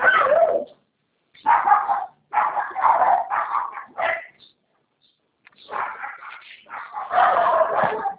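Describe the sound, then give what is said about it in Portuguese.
A dog barks repeatedly in loud bursts, yapping in quick clusters with short pauses between them and no one speaking over it. “parece que o cachorro tá.”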